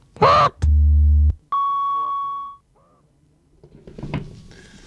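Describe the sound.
Two horn honks: a short noisy burst leads into a low, buzzy blast, then a higher, steady tooting honk follows. Faint voices murmur afterward.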